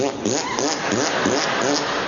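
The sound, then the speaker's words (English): A voice blows a long, loud raspberry, also called a Bronx cheer or bilabial fricative: a buzzy, sputtering lip vibration whose pitch wavers up and down for about two seconds without a break. “Bronx cheer and raspberry never made it for me. Bilabial fricative.”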